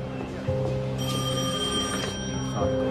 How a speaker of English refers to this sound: Your phone's ringing. Yeah, I know.